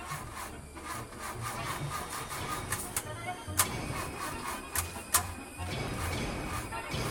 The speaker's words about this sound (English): Where's my car? Oh, right there. God, I hope she starts.